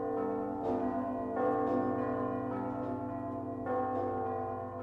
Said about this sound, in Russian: Между тем гудел, не умолкая, оглушительный звон колоколов.